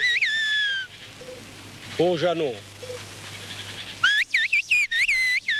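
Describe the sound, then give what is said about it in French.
Loud whistling in the whistled language of shepherds from a small village in the Ossau valley in the Pyrenees, France, with pitch sweeping up and down in phrase-like bursts. A brief spoken call interrupts between two stretches of whistling. “Le langage sifflé est propre à un petit village niché au cœur de la vallée d'Ossau, dans les Pyrénées, le village d'Ass.”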